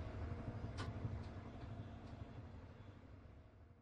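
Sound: train passing on rails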